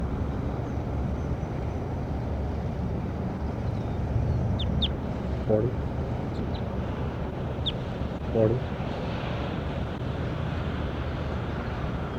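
bird calls

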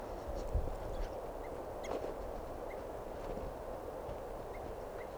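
bird alarm calls

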